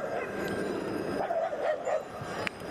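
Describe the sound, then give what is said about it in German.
A dog barks and yips at another dog in a quick cluster of short calls, over a steady background hiss, followed by a sharp click near the end. “Also wenn der Hund nun einen anderen Hund anbellt, ist es mir egal.”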